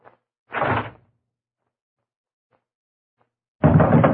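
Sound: door being opened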